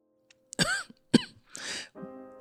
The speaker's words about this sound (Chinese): 不用啦，看医生要花钱。我只是咳嗽而已，多喝开水就好啦。